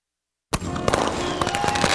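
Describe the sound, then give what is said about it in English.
Fireworks at the Sugar House Fireworks Show for Independence Day, July 4th, at Sugar House Park in Salt Lake, start after half a second of silence and burst into a dense, continuous barrage of crackles and sharp pops, many rapid overlapping bangs at a steady, fairly loud level. “Make your Independence Day special with the best fireworks show in Salt Lake.”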